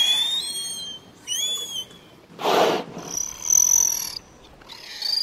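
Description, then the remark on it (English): Killer whale calls: a series of high, squealing whistles with rising and bending tones, broken by a brief harsh buzzing pulse in the middle, heard alone without any talking. “Killer whales, also called orcas, are like dolphins and belugas. They all have a wide vocal repertoire.”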